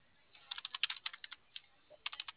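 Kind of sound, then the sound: machine, computer keyboard typing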